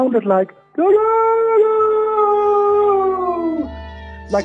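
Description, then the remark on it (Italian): Fishermen's sales cries at a market in Siracusa, Sicily, as they advertise their fish: a few short vocal bursts, then one long, loud, wailing call held on a steady pitch for about three seconds before breaking off, with a brief cry at the end. “Un giorno sono uscito dal mio albergo e poco distante c'era un mercato in quel momento e c'erano dei pescatori che con la loro voce reclamizzavano i loro pesci. Levavano le loro voci in questo modo.”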